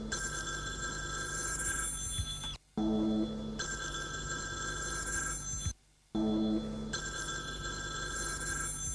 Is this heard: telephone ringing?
yes